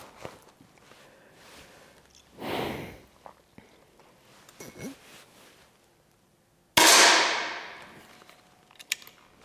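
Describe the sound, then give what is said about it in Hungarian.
A single loud air rifle shot cracks out with a hissing burst of released air as a small loaded pellet is fired at a target on a shooting range. Softer handling clicks and a brief whooshing rustle come before it, with no one talking. “És ugye az első 5 lövés nagyjából az, amíg megtaláljuk egyáltalán a tábla közepét,”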